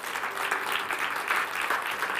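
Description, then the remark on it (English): A church audience applauding together as a hand clap offering of praise to the Lord, a dense, steady wash of many hands clapping at once with no pauses, fairly loud and sustained throughout. “Let's give the Lord a hand clap offering of praise.”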